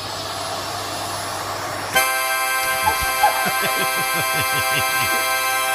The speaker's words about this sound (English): But nothing made me laugh this weekend harder than the tape on YouTube was called Vacuum Cleaner Meets Harmonica in Japan. And so there is a harmonica laying on the floor, and a vacuum cleaner grabs it.